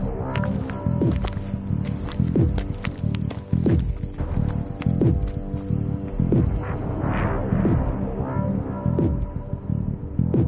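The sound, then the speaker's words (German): Slow, uneven, hesitant footsteps crunch and thud as people walk into a dark forest, pausing and starting again over a low, steady rumble, with no voices. “Mit stockenden, zögernden Schritten betraten wir den dunklen Wald.”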